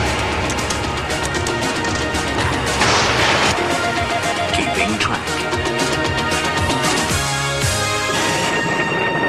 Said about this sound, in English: Oh, it ends with an explosion. How great. Nice. That's terrific.